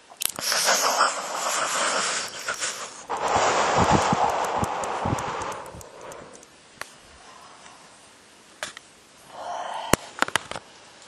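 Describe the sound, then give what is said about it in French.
Breathy air is blown out between the teeth in long gusts, followed by a few sharp, sparse clicks of teeth deliberately knocked together like castanets to release jaw tension; fairly quiet, with no talking. “Grâce à ce petit mouvement de castagnette, vous permettez à ces tensions de se libérer.”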